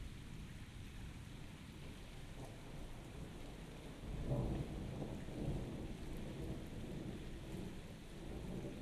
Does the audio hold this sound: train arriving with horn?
no